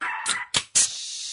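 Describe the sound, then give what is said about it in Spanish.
A small dog gives three quick, sharp yapping barks in rapid succession, high-pitched, with a faint hiss lingering afterward. “Ese perrito neurótico.”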